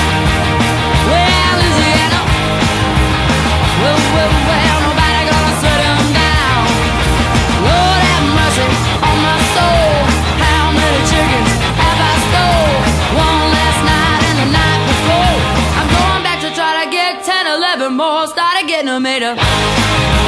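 A loud rock song plays continuously on KFMH radio's Heartland Hootenanny, with a full band and energetic singing. Near the end the low end briefly drops out for a sparse break before the band returns.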